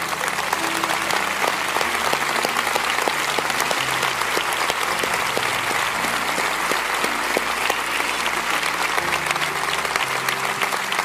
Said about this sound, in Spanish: Pónganse de pie a las de ustedes que han dicho que sí a Dios, esas madres preciosas. Les vamos a honrar. Denles un buen aplauso.